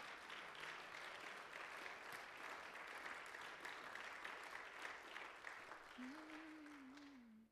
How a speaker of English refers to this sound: Let's clap our hands one more time to Jesus.